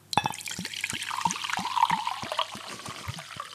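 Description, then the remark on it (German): Rossbacher mineral water poured into a glass, a steady stream of gurgling glugs with a fizzy, bubbling hiss that builds and then trails off, no voices. “Willst du kein Wasser? Soll ich mir? Nee, komm, mach hier.”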